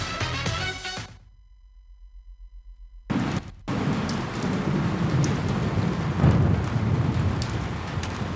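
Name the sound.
rain with thunder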